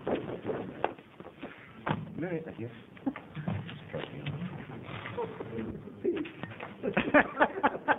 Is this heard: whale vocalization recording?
no